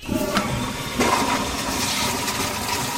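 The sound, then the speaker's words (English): A toilet flushes, a steady rushing swirl of water that holds its loudness for a few seconds, with no voices over it. “So after you flush, wash your hands, what happens next?”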